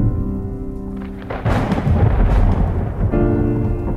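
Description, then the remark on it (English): A loud crack of thunder rolls into a heavy rumble with rain hissing, surging for a couple of seconds over a soft sustained musical drone that returns as the storm fades; a sudden late-summer storm over a synagogue parking lot in Houston. “It had been a beautiful late summer day up until that point, when the sky just opened up and the storm just came out of nowhere.”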